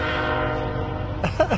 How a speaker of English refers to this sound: Can you hear the train?